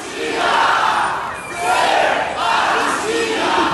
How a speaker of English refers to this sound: On the streets of Brazil, pro-democracy demonstrators are chanting, "Sem anistia," or "No amnesty."